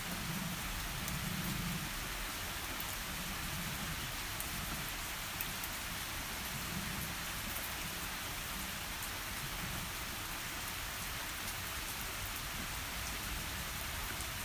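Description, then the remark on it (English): Steady rain pours down in Britain in a continuous, even hiss of drops striking surfaces, holding the same level throughout with no voices, and a faint low rumble sits underneath. “Typical British weather.”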